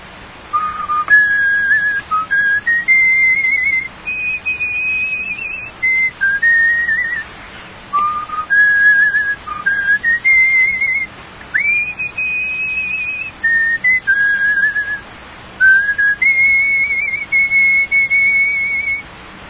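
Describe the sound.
A man whistles a clear, steady tune while climbing a steep mountain in Manyamya, holding long sustained notes in phrases separated by brief pauses, with no talking.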